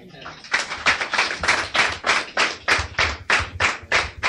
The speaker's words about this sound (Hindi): ताली बजाने इनके लिए।